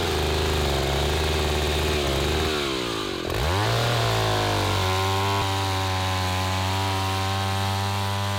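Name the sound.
saw cutting through wood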